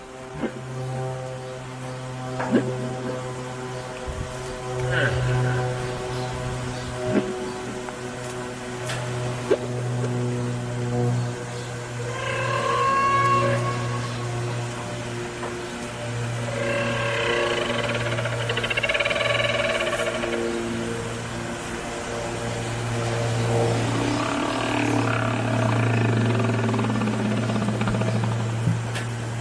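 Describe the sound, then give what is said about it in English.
A loud plane passes low over Great Barrier Island, its steady, droning engine hum filling the whole stretch with a rich, buzzing tone that swells and shifts slightly as it goes by. No one speaks. “I'm pausing for this plane.”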